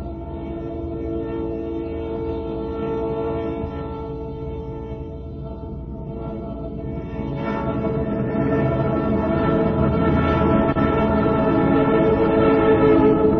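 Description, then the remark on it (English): A diesel locomotive engine drums and rumbles steadily, its heavy throbbing drone growing louder about halfway through as the train keeps moving, with no voices. “Doesn't that give you a feeling of strength when you hear the drumming in that engine going along? Diesel.”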